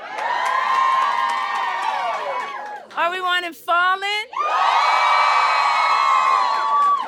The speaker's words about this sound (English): I actually had people scream for it.